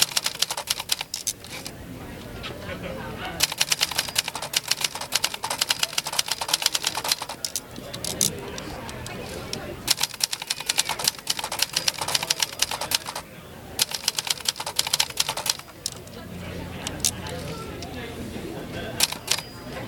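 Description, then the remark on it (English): Rapid clattering typewriter keystrokes, the keys hitting the paper, in bursts, with brief pauses between flurries of sharp mechanical clicks, fairly loud. “I love the sound of just the keys hitting the paper.”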